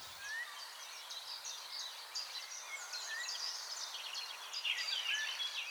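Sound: eurasian golden oriole song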